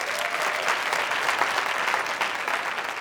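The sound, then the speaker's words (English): An audience at a comedy performance in Burbank claps steadily for a few seconds in answer to being asked who has had jury duty, a dense, continuous patter of many hands at an even loudness with no voices rising above it. “How many people here have had jury duty? By a round of applause.”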